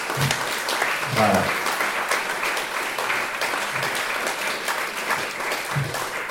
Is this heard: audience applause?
yes